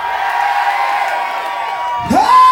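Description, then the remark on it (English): A large audience yells back together in call-and-response in a loud, sustained roar, ending with a sharp rising whoop as voices swell near the close. “I'm gonna yell something out. You yell it back, okay?”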